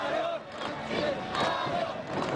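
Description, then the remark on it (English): Huge crowds lining the streets of Pyongyang, North Korea, chant "Welcome Putin" together in unison, a loud, dense roar of many voices rising and falling in steady rhythmic pulses, with no single voice standing out. “Waking up to the sound of huge crowds lining the streets of Pyongyang, chanting "Welcome Putin" in almost perfect unison.”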